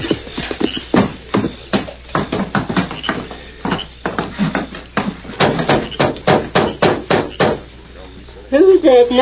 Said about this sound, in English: Knocking at this time of night?